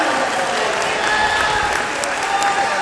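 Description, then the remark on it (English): Crowd ambience in Covent Garden, London: a dense, steady wash of many voices mixed with scattered clapping, loud and unbroken for the whole few seconds. “However, waiting for the train back, I am now in Covent Garden, as you can hear.”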